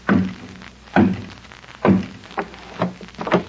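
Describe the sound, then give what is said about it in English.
Knocking on the door of room 107 at the Temple of Beauty, headquarters of Banaru's mystic cult, a door with a peephole in the middle: three heavy, evenly spaced thuds about a second apart, followed by three lighter, quicker knocks, with no voices. “Gad, look at that door.”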